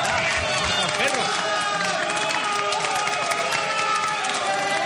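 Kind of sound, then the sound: crowd, applause and cheering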